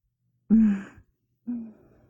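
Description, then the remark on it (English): Two loud, heavy breaths amplified through a gas mask, the first longer and fuller, the second shorter and trailing off into a soft hiss. No one speaks. “Me and my special little safe gas mask. I just love hearing my breathing amplified like that.”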